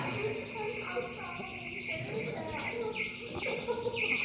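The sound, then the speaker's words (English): A few short, high bird chirps ring out indoors near the end, mixed in with a voice talking and the room's background murmur. “Is there a bird in here somewhere?”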